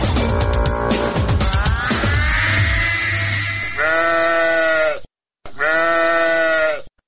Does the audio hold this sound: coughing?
no